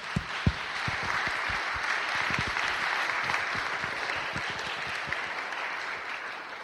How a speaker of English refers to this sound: So not only do I celebrate his graduation, I celebrate his mission and ministry here in the life of the church. So let's give these two individuals here a round of applause.